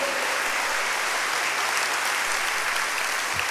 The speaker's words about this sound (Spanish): Un aplauso al Señor. Él es bueno.